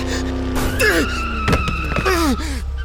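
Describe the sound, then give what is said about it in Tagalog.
A fast car speeds toward where a woman stands and rushes past, with loud, high-pitched tire screeches that rise and fall in a few sharp squeals over a steady engine roar, punctuated by brief bursts of noise. “Eh parang hindi ko naramdaman ang sakit ng likod ko at napatakbo ako sa babae at hinila ito palayo sa rumaragasang kotse.”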